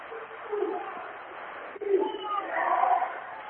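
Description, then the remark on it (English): A large basketball crowd booing and jeering at a blocking foul call with 40 seconds to go, in a steady, low, droning wash of voices that swells louder in the final second or so, with no single voice standing out. “Again, the crowd a little hostile about that call.”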